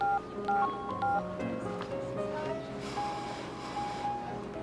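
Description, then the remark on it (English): A quick series of electronic keypad tones as Fielding dials a number on his mobile phone, short distinct beeps one after another at a steady pace, over a low background hum. “Fielding picks up his mobile phone and dials a number.”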